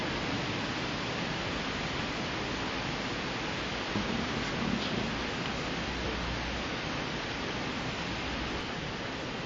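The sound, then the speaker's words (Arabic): Steady, dense hiss of rain falling continuously, a broad even wash of noise with no pauses and no voices, fairly loud throughout. “ادعوا، فإن الدعاء عند المطر مستجاب إن شاء الله.”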